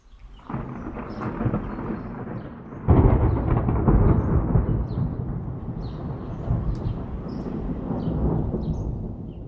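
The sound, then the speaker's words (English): Deep rolling thunder rumbles continuously, swelling with a loud crack-like surge around three seconds in, then grumbling on at a steady level with faint rain hiss above it. “The each other soundeth in our ears, and that we call thunder, which indeed is none other than you have heard.”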